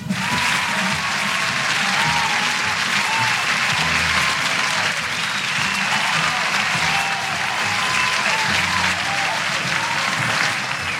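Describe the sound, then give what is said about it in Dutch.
Loud, sustained audience applause fills the whole stretch, a dense steady wash of clapping hands with a faint murmur of crowd underneath and no pauses. “Een applaus is dat echt waard.”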